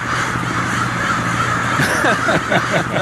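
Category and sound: bird, crows cawing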